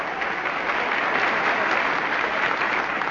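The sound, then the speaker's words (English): A studio audience claps steadily in sustained applause, a dense, even patter of many hands that holds at a consistent loudness for about three seconds with no voices standing out. “Now, please don't applaud too much now.”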